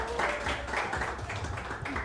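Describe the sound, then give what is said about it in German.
An audience applauds with steady, dense clapping that holds at a moderate level for about two seconds, with faint murmuring voices mixed underneath, as the last guest is brought onto the stage. “Applaus bitte.”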